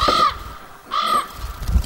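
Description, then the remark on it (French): Two harsh, raspy crow caws ring out one right after the other with a short pause between, loud and abrupt against a quiet, hollow background, from a bird in an abandoned room in Pripyat. “Saloperie de Piaf.”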